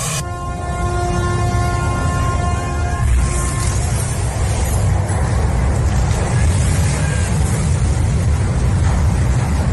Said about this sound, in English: this cruise ship that crashed into a Venice harbour. Terrified onlookers are forced to flee because the cruise ship, as it was coming into dock, just didn't stop and it kept going.